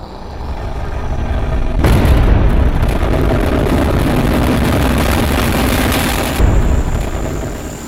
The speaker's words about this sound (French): Décollage.